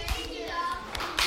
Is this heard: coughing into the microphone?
no